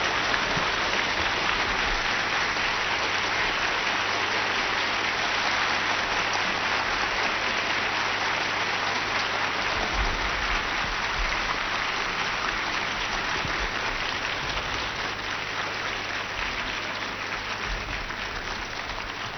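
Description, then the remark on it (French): Sustained audience applause as a singer is brought onto a stage, a dense steady wash of many hands clapping at an even, loud level for the full length, with no voices breaking through. “Il y a trop d'applaudissements.”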